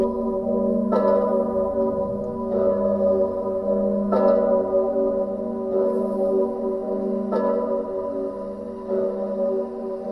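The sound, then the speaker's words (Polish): A large church bell in Kraków tolls steadily, about six deep strikes at an even, slow pace, each ring swelling and humming into the next, loud and resonant with no voices present. “No i później jak papież przyjeżdżał do Krakowa, to jak leciał nad Krakowem, jak wracał z Krakowa, jak lądował w Krakowie, dzwon się odzywał.”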